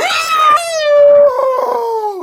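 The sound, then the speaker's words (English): A person imitates a ghost with one loud, drawn-out wailing scream, not guttural, loud enough to make guitar strings sound. The pitch holds high, then slides slowly downward over about two seconds, with no other talking. “Wow, I screamed so loud that it made the guitar strings do things.”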